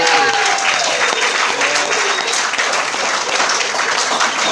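A steady round of applause from a crowd, dense overlapping clapping that stays loud and even for several seconds, with a few faint voices and whoops mixed in.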